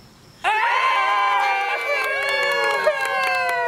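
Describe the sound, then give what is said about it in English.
After a brief quiet moment, a small crowd at a gender reveal party, where the expecting parents poured mystery paint onto white paper and it came out yellow, suddenly erupts into loud, excited cheering and high-pitched screams. The shouting holds steady for several seconds with overlapping voices. “This video may sound like it's from any old gender reveal party, but it's from one that's a little different.”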